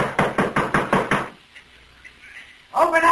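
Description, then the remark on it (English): Six heavy, evenly spaced thuds of men pounding on a wooden door, demanding that it be opened, loud, followed by a short pause before a man starts speaking. “Open up this door.”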